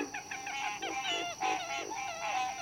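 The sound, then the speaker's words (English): A dense chorus of night calls from frogs, birds, mammals and insects: overlapping nasal, honking cries and quick peeps repeat in uneven bursts over a steady high hiss, with no voices. “The Mysterious Voices of the Night, a medley of hoots, croaks, peeps, and snorts, have long fascinated and sometimes frightened humankind.”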